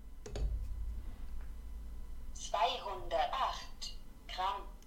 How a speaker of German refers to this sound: So, erstmal begrüßt man einen freundlichen Hallo und dann sagt sie Nullrückstellung an. Ich lege jetzt mal zum Beispiel mein Handy auf diese Waage.